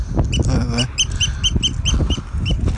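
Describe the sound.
A bird chirps over and over in quick, steady bursts, fairly loud, while a voice and other low background noise run underneath.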